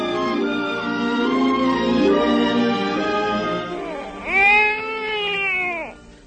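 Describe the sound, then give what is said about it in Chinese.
A baby cries steadily, a drawn-out wavering wail that swells into a louder, arching cry near the end, with no talking. “我还没有到家就听见婴儿的哭声，哎呀，一定会被人听见的。”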